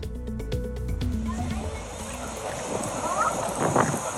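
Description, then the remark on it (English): A rubber boat carrying residents crosses a flooded street in Dubai, UAE, after the heaviest rain in 75 years, with steady splashing and rushing wind noise over the mic, while indistinct voices murmur faintly in the background. “Residents of Dubai cross a flooded street in a rubber boat.”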